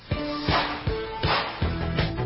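Sharp whip cracks snap out in a steady rhythm, about every half second, loud and punchy over a background of synth-like musical tones.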